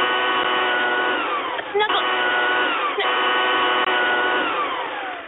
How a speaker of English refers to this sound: Drown her out with a 200-mile-per-hour cordless leaf blower. Got it.